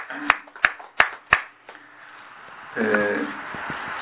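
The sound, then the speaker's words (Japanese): Brief applause for a 27th birthday: four sharp, evenly spaced handclaps in quick succession, followed by a short stretch of voices murmuring and low background noise. “27歳の誕生日を迎えられましたので、盛大な拍手でお願いしました。”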